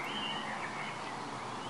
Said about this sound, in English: And now you're recording now. There we go. Hopefully you heard that chirrup.